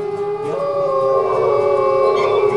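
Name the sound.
wolves howling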